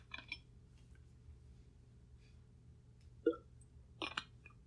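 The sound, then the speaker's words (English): Someone takes a sip of water: a soft gulping swallow followed by a couple of faint wet mouth clicks, heard alone over a low steady hum. “And I'm going to take a drink of water.”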